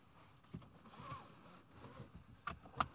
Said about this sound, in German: So, ich helfe Ihnen mal anschnallen.